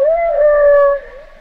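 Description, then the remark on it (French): A whale vocalization: one drawn-out, tonal moan with rich harmonics and a gently wavering pitch, fairly loud and steady before softening toward the end, with no one speaking. “Si c'est les sons de, si c'est des vocalises de baleine, ou si c'est des préenregistrements.”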